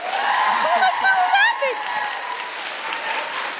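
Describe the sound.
An audience applauds steadily for a few seconds in sympathy for a contestant during a vote for a crown, a dense, fairly loud wash of clapping with scattered voices and whoops rising above it before it settles slightly.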